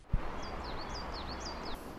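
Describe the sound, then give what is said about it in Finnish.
Birds sing in a rapid series of short, sweeping high chirps, fairly faint, over a steady outdoor background hum, with a brief low thump near the start; birdsong heralding spring. “Linnut laulavat jo runsaasti enteilen kevättä ja Otaniemessäkin kuului runsaasti lintujen laulaa”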